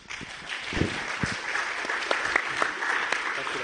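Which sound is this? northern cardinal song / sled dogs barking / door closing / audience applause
audience applause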